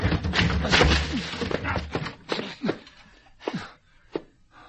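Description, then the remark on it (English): A door is rammed by a shoulder to break it down: a rough, noisy burst of struggling followed by several heavy, irregular thuds, spaced apart and fading slightly, with a faint vocal strain beneath. “Come on, we'll break it down.”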